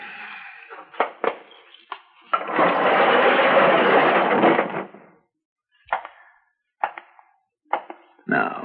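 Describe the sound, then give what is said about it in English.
A quick-lift door of an unlighted garage at the back of an apartment building, facing the sidewalk and street, opens on a dark, cloudy day: a few sharp clanks, then a loud, steady metallic rolling rattle for a couple of seconds, followed by scattered thuds and knocks as it settles. “My unlighted garage is at the back of the apartment building, but faces out toward the sidewalk in the street, and it has one of those quick lift doors on it.”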